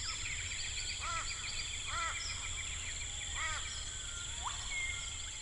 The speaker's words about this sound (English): Yeah, so there are three basic categories. The first one is biophony. That's all of the wild animal sounds. So an example of biophony would be this chorus of birds.